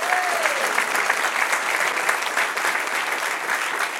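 A crowd claps steadily for about four seconds, a dense wash of many hands applauding together at an even volume, with a brief whistle-like tone near the start, applauding the Lord during a Christian sermon.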